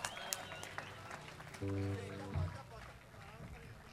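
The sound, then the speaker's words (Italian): An audience applauds with a dense, steady wash of clapping that carries through the whole moment, while a brief low sustained tone swells up in the middle and fades. “Un applauso”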